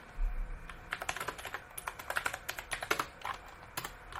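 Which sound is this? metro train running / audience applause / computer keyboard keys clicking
computer keyboard keys clicking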